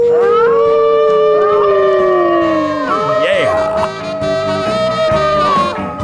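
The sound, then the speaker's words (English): A man imitates a wolf with his trademark long, loud howl for KHNS radio, holding and slowly sliding in pitch, then wavering and rising again for several seconds without a break. “will keep the Upper Lynn Canal ringing with his trademark howl”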